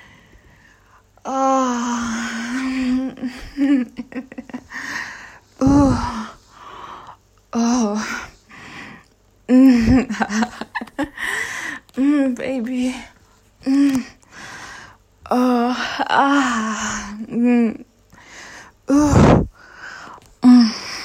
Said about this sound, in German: Also, wie viele Stöhne brauchst du, um den Steifen zu bekommen?